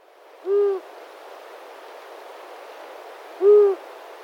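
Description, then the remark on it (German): A long-eared owl calls twice, each a single low, soft hoot, separated by about three seconds of quiet background hiss, with no voices present. “Manchmal hört man auch den Sound im Frühling, im frühen Frühling, also eher so Spätwinter. Und den originalen Sound habe ich euch auch mitgebracht.”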